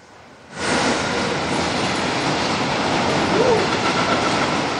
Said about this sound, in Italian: Treno merci, Treno merci.